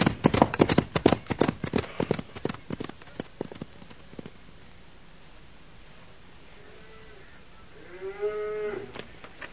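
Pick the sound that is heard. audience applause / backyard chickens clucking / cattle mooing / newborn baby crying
cattle mooing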